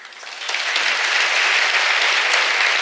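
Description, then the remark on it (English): Audience applause builds quickly from a thinner patter into a dense, steady wash of many hands clapping at once, sustained at a fairly loud level with no voices over it. “Hey, you shouldn't clap for yourself like that.”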